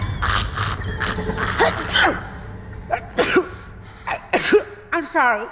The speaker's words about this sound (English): I'm sorry. I just, whenever I get nervous, I sneeze. And I know it sounds crazy, but it's a real medical thing. It's called stress-induced rhinitis.